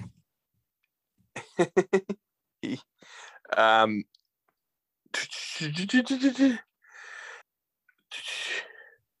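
Heavy, close-miked breathing: several loud, rushing breaths and gasps in uneven bursts, mixed with short vocal noises and a sneeze-like burst.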